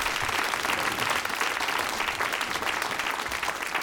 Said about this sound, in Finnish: Mutta hei, nyt hyvät ystävät, antakaa valtavat aplodit meidän panelisteille.